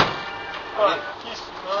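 A car's hidden compartment mechanism, built by an 'Ndrangheta man to hide drugs inside his car for transport and worked by a button, runs with a steady, hissy mechanical whir, a brief whining rise partway through and a slight surge at the end, moderately loud throughout.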